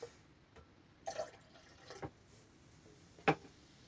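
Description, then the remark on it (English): Quiet fizzing from a light yellow carbonated drink, with scattered small pops and crackles and a few sharper clicks of bursting bubbles, without any talking. “Can hear it's pretty fizzy there, and the bubbles are nice and busy.”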